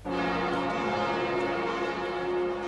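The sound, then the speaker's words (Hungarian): Church bells of St. Stephen's Basilica ring loudly and continuously as a copy of a Marian icon arrives, several bells overlapping into a dense, sustained wash of resonant tones with no pauses and no voices. “Harangzúgás közepette érkezett a Szent István bazilikába a Częstochowai Fekete Madonna kegykép hiteles másolata.”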